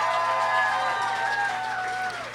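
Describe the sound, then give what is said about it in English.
A short burst of applause mixed with cheering voices from the audience of a sold-out live show on Valentine's Day, applauding as couples who listen to the show together, steady and fairly loud for about two seconds before fading slightly at the end, with no one talking over it. “No, there's a applaud if you're a couple that listens to this show together.”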